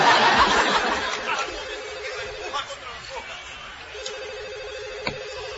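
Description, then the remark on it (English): A telephone rings in short repeated bursts at moderate volume, mixed with background chatter and some laughter. “You know, I figure if I'm always answering the phone, people will think I don't have a life.”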